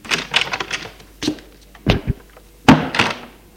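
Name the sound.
door opening behind someone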